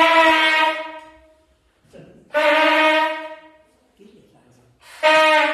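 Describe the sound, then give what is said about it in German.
A night watchman's signal horn sounds three loud, sustained blasts as a test alarm, each a steady harmonic tone lasting about a second and fading out, separated by short gaps with brief low rustling between them. “Der hat eine Öllampe dabei und ein Signalhorn.”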